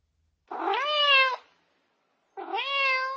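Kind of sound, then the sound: animal, cat meowing and caterwauling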